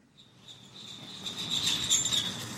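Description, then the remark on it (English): A ragged mechanical rabbit lure squeals as it skips along a rusted metal rail at the Tucson Greyhound Park dog-racing track in Arizona, a thin, high-pitched screech that swells steadily louder over a low rattling rumble. “A ragged rabbit lure squeaks as it skips along a rusted metal railing.”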